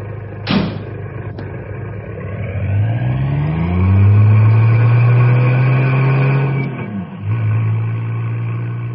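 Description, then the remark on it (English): A car engine starts up and revs, its pitch climbing steadily as it accelerates, then holds a loud, steady drone with a brief dip near the end. No voices are heard. “Shall I return here with the car? No, meet me at the bridge.”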